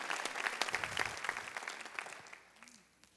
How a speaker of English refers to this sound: Come on. He deserves our praise. Come on, somebody. Come on, let's clap together and say, thank you, Jesus. Thank you, Jesus.